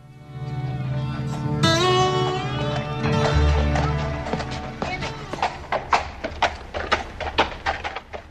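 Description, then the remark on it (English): The hooves of twelve ridden horses clip-clop at an unhurried, steady pace as they ride slowly into town in Liberty, Missouri, in 1866 at 2 o'clock in the afternoon, the sharp hoofbeats growing clearer over the second half, following a stretch of sustained tonal sound at the start. “Twelve men on horses ride slowly into town.”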